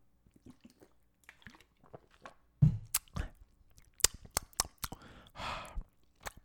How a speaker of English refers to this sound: I'm going to take a sip of water because my mouth is dry because I've been talking for a half an hour straight. So please hold while I have a sip of water.